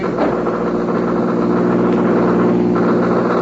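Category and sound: vehicle, car engine racing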